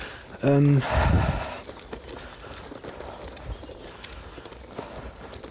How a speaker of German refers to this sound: Hört auch Schritte, aber sieht keine Leute.